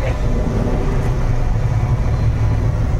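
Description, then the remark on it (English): A vintage Nazi motorcycle engine runs steadily, a loud, continuous low rumble with a rough, throbbing texture that holds even for the full few seconds, with no voices. “Byrne had to track down a vintage Nazi motorcycle to add one key detail.”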